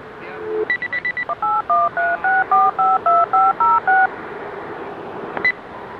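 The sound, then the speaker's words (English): Telephone touch-tone dialing of the NOAA Weather line (National Weather Service, Tampa Bay area) on May 21, 2014: after a brief steady tone, a quick flurry of short beeps gives way to about ten evenly paced dual-pitch keypad tones, clear and fairly loud over a faint line hiss. “And I'm going to document that by firing up NOAA Weather. Let me see if I can find it in the phone book right here.”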